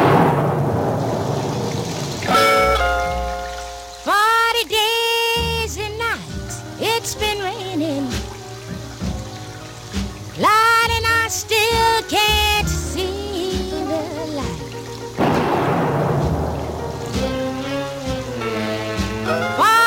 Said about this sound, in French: Et cette dame noire chante dans un orage formidable. Il pleut, il tonne.